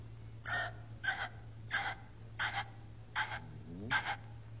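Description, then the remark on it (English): A person imitates a ring-necked pheasant call with six evenly spaced, raspy squawks about a second apart, moderately loud, over a steady low electrical hum. “How does a ringneck pheasant sound?”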